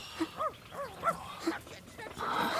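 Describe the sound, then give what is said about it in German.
A dog gives a handful of short yips and rising, whining whimpers over a couple of seconds, ending in a burst of rough noise. “So ein dummer Köter.”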